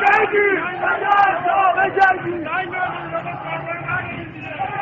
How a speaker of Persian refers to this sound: جمعیت عصبانی شعارهای تند می دهند.